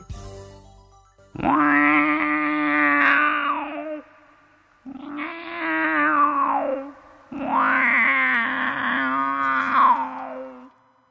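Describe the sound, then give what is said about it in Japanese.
A voice imitates a monstrous cat, letting out three long, loud growling wails with rising and falling pitch, each drawn out for a couple of seconds, separated by brief pauses. “最初に紹介するのは、 はい、うん、 化け猫です、 は 世にも恐ろしい化け猫の声をお聞きください”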